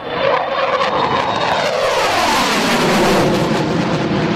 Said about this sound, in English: It's the end of an era for a staple of Australia's Air Force, with hundreds gathering at the Williamtown RAAF base to see the FA-18 Hornet fly into retirement with a final roar.